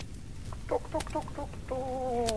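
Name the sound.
chickens clucking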